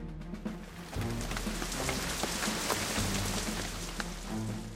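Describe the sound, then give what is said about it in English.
Steady rain falls from a gray sky across the whole clip, a dense, even hiss of drops pattering on a surface, with no voices and a low rumble underneath. “Look, the sky is gray. It starts to rain.”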